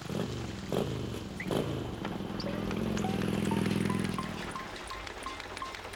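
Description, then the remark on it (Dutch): A few clicks, then a small moped engine buzzes into life, swells louder and pulls away with a passenger riding on the back, its drone fading while faint chirps repeat in the background. “Stap maar achterop, mijn brommert.”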